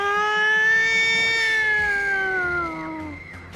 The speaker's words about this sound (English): And if you do not have a siren going off in the background of your drag mix, are you even doing drag? Nope.